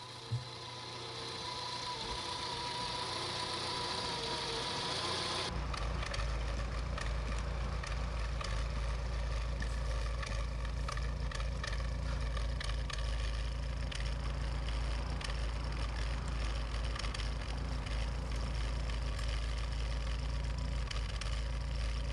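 A Dacia 1310 TX estate car's engine runs, then after a few seconds shifts into a louder, deeper exhaust rumble that drones on steadily with no one speaking.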